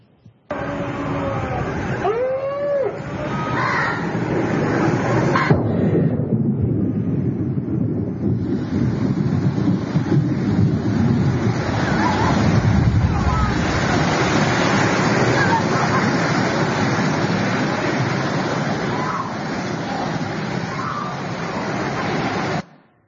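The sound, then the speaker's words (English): Loud, steady roar of wind and churning flood water fills the whole stretch, with human screams and cries rising through the noise, clearest near the beginning. “And as you look, listen to this video, listen to the voices of all the people screaming who missed the boat.”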